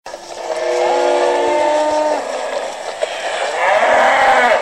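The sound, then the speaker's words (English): Several hundred cattle, led to graze in the French-speaking village of Balamba in central Cameroon near Bafia town, low in long, drawn-out moos that overlap one another, loud, over a steady outdoor background with no talking. “leads several hundred cattle to graze in the French-speaking village of Balamba in central Cameroon, near Bafia town.”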